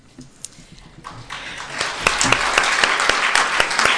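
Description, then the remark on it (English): Audience applause swells from a few scattered claps into a steady, dense round of clapping that grows louder over several seconds, with sharp individual claps standing out. “A round of applause.”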